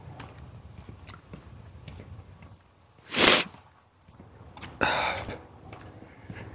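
Two sharp, breathy sniffs about a second and a half apart, against a quiet background with faint low rumble and no talking.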